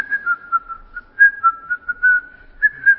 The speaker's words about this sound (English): One of the ways to know a believer that is full of the Spirit is always singing. Full of songs. And sometimes he's even whistling.